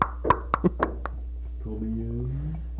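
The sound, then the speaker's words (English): Five quick, irregular raps on a door, sharp, followed by a voice speaking once the knocking stops. “Somebody knocking at our door.”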